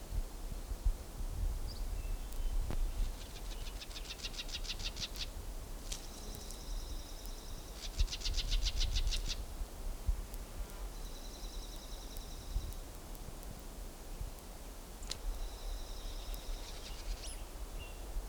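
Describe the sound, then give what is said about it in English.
Soft, high shadow notes of solitaire birds, a male and another bird, come in short bursts, some as quick rapid trills and others as thin sustained tones, repeated several times over a steady hiss of wind and rustling. “Shadow note of male. Now they're both there.”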